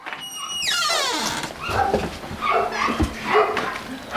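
Several dogs at Reino Oskarsson's dog kennel whimper and yip excitedly, with high whining cries at first followed by a jumble of short barks and yelps, continuous, with a metallic clatter in the background.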